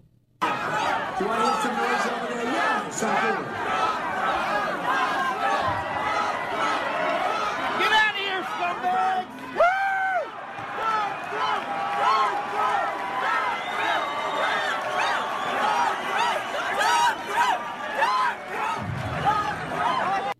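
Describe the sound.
A rowdy crowd of Trump supporters yelling and shouting at protesters over one another in a dense, continuous roar of overlapping voices, with sharper individual cries rising out of the din throughout.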